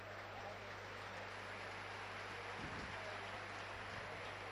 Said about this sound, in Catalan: Aplaudiments en l'estadi, la ceràmica que poquet a poquet va quedant-se buit, eh? La gent ja diu, això ja està fet.